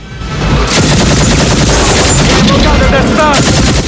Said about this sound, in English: He grabs the anti-aircraft gun in the ragged placement and aims for the banking chopper. He opens fire.